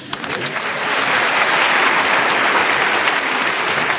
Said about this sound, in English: We're showing appreciation for the value they gave, but now round of applause, the man who had more points than anybody else, and our winner this week, Clement Freud.